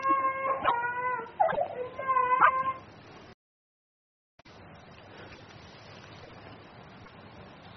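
A young child cries in a few loud, wavering wails for about three seconds, heard over a phone call, before the call cuts out abruptly, leaving a brief silence and then a steady background hiss.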